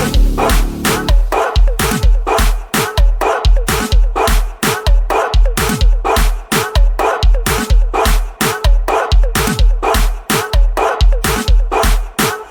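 A dog barks and yips rapidly and continuously, loud, with sharp high-pitched bursts following one another in a frantic, steady rhythm.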